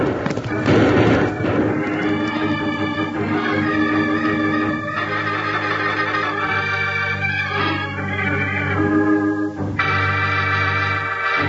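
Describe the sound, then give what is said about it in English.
A galloping horse whinnies over a loud, dramatic orchestral music bed, with a burst of thudding gallop-like noise at the start and sustained brassy tones throughout. “Stay low on that saddle and ride. We can't stop now.”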